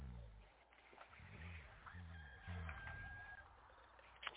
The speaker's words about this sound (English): The rooster crowed. Wake up!